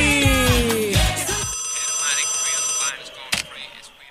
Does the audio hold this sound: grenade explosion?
no